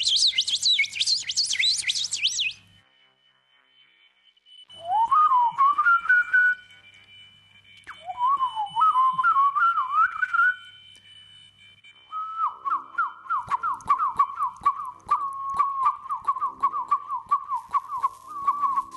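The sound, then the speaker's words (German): A nightingale sings alone: a dense burst of high chattering notes, a pause, two rising whistled phrases, then a long rapid trill on one pitch, loud. “Und wenn man jetzt den Gesang allein einer Nachtigall betrachtet,”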